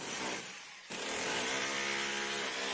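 An electric Makita power drill runs steadily, a loud buzzing motor whine that dips briefly then surges back to full speed, with no voices.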